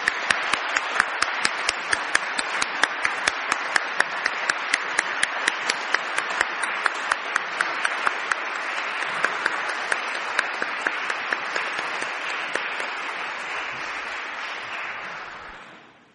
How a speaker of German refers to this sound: Mit einigen wunderbaren Stücken von Johann Sebastian Bach, Orchestersuite Nummer 1. Das ist einen richtig dicken Applaus wert. Herzlichen Dank, dass ihr hier wart.